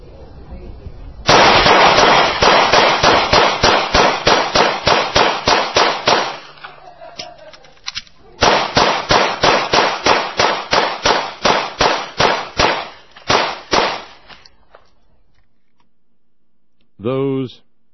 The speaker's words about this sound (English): In 12.3 seconds, that is the sound of 31 rounds being pumped through a New York City standard issue police pistol. Hear it again.